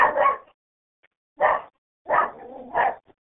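A dog barks four times at uneven intervals, short sharp woofs, the third one trailing into a brief low whine before the last bark, with no voices.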